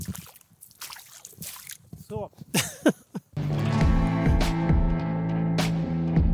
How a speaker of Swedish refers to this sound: Nu ska jag försöka gå över den här våtmarken. Jag kanske borde haft ett par stövlar med mig egentligen. Jaha, hur hittar jag fram här? Hur tar jag mig över egentligen utan att få total plurra här? Jag får helt enkelt plaska lite.